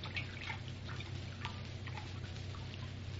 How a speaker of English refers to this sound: Here, Captain, is the water and the bandage. I'll bathe his temples.